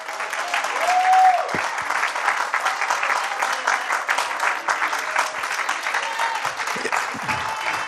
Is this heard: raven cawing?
no